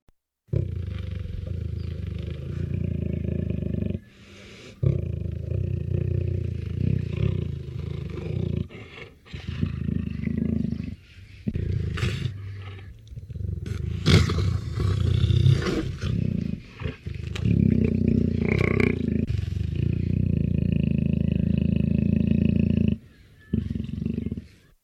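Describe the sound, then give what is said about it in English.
A jaguar growls in a long series of deep, rasping roars, loud and low-pitched, broken by a few brief pauses, with no talking over it. “Once again, here's the growl of a jaguar.”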